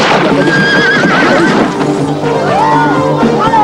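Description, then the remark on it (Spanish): A mule brays and whinnies loudly in a stable, its voice sliding up and down in long wavering calls, with hooves clopping and shuffling steadily underneath. “Llega a un establo y habla a un mulo.”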